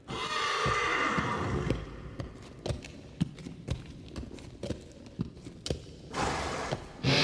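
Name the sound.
horse hooves clip-clopping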